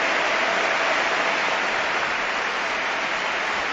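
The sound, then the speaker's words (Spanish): The standing crowd at Athletic Bilbao's stadium, called 'la catedral', gives a sustained ovation for Iraola in the 15th minute of a match, a dense, even roar of applause and cheering that holds steady for about four seconds with no voices rising above it. “Ovación para Iraola, así suena la catedral.”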